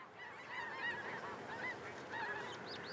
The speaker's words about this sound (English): A huge flock of snow geese fly overhead this drizzly, chill autumn morning, heading south for the winter.